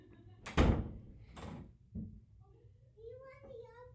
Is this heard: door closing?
yes